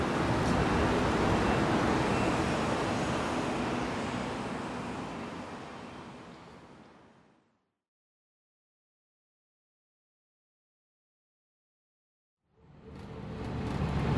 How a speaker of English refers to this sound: All right, I'm on the 953 Express bus, and everybody emptied out of this thing at the university. Me and three old ladies got on, so I'm sitting at the back of the bus all by myself.